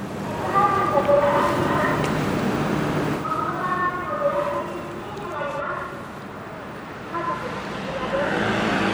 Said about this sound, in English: So a van just went by, spewing out the sound of a pre-recorded message. I noticed there's two guys in the car. It wasn't even a lady doing a live spouting of stuff.